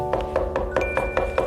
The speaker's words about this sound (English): There's somebody knocking. Oh, it's our friend Mr. McFeely.